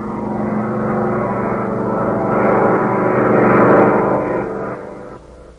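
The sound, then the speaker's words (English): A propeller airplane, a Nazi plane, roars loudly and steadily, its engine growl swelling toward a peak as it power dives on a Nazi supply depot, then tapering off at the end. No voices. “The plane's starting its power dive.”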